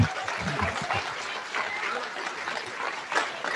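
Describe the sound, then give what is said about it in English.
An audience applauds national first place winners at a Language Arts League awards: a steady, dense wash of many hands clapping at once with some scattered voices mixed in, sustained for the whole stretch. “Clap for those three people.”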